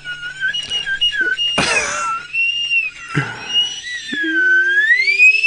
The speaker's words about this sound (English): Whenever I hear a slide whistle, I turn into Jimmy Stewart.